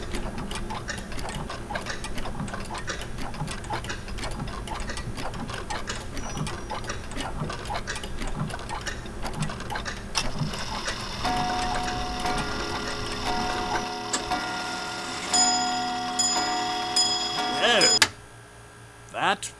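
household object, clocks ticking

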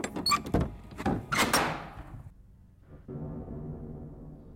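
household object, door opening

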